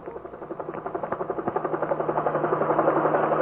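A helicopter's rotor thumps in a steady rapid rhythm, the chopping growing slightly louder as it passes overhead, with a constant engine whine beneath and no voices.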